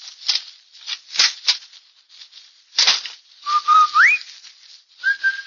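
A person whistles the Rinso whistle, a short tune telling the children a parent is home from work, in a Kansas City, Missouri household: a held note sliding sharply upward, then after a pause another steady note, preceded by bursts of clattering, rustling noise. No one speaks.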